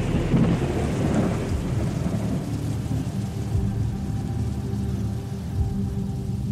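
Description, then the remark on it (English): A violent thunderstorm with heavy rain: a steady, dense roar of rainfall with deep rumbling thunder rolling underneath, loud throughout, no voices. “April 1st, violent storm almost all night.”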